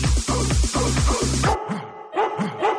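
A few sharp dog barks ring out after a pounding rhythmic beat stops, loud, spaced about half a second apart, on W Radio marking World Dog Day.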